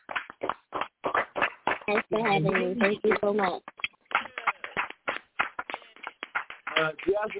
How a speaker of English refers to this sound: Everybody clap it up real loud, really loud